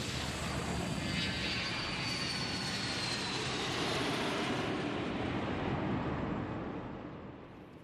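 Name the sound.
airplane taking off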